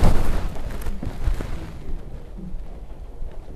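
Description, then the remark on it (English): A single loud gunshot-like blast opens with a sharp, booming burst, then a heavy rumbling echo slowly fades for a few seconds. No voices are heard. “Al tiro, boom, like a gunshot. It's pretty quick, huh? Gunshot.”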